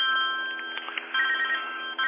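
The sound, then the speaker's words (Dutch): A telephone rings steadily in a continuous electronic trill, a tinny, band-limited tone with brief pulsing breaks, heard alone with no talking. “En de telefoon die gaat hier ook, maar die kan ik even niet opnemen, hè.”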